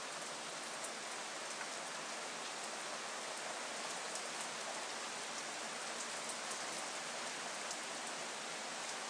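Steady rain pours outdoors, heard from a front porch: a dense continuous hiss with scattered drops tapping surfaces, even and unbroken throughout with no voices.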